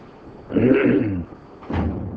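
A door being closed: a drawn-out scraping swing lasting under a second, then a short pause and a second, duller bump as it settles shut. Moderately loud, with no one speaking.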